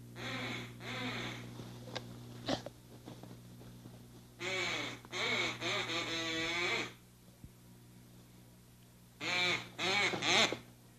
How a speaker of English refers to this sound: That sounds like a duck or something. Can you hear that?